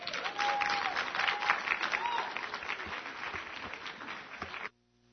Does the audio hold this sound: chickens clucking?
no